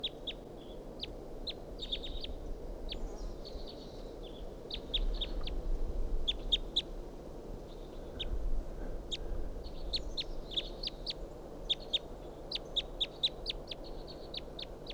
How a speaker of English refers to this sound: Wild bird here. Recording, I shot at that bird with a 22 and didn't get him. And this is him.